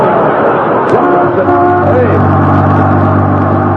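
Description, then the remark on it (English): A Los Angeles bus, up in Alaska, roars past, its engine pitch rising and shifting as it accelerates, then settling into a loud, steady low drone that fills the whole stretch. “that's a Los Angeles bus.”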